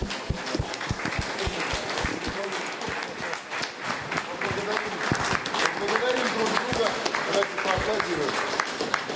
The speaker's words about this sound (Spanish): Vamos a agradecer a cada uno, vamos a aplaudir.